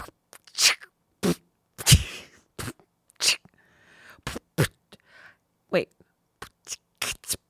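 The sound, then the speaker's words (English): A voice beatboxing a rough "boots and cats" drum rhythm: short breathy hi-hat bursts and a few deeper kick-like thumps in an uneven, stop-start pattern, performed alone without words. “Are you doing Boots and Cats at us right now?”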